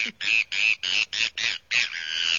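A Bonaparte's gull gives a rapid series of about seven harsh, nasal, raspy calls, buzzy and horn-like, repeated in quick rhythm with no talking.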